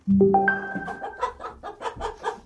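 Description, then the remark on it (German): A hen's loud egg-laying cackle: a drawn-out rising squawk, then a quick run of sharp, repeated clucks in an uneven rhythm, alone with no talking. “Oh, da wird gerade ein Hühnerei gelegt”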